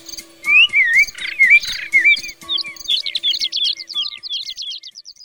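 Birds chirp and sing in a lively, continuous stream of quick whistled notes and trills, clear, with faint steady tones underneath and no voices.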